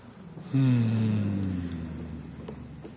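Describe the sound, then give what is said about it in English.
After drawing in a long, deep breath, several voices hum together in one long, steady, low tone that starts abruptly, drifts slightly downward in pitch and slowly fades as the breath runs out. “And drawing in a long, deep breath and letting out a hum.”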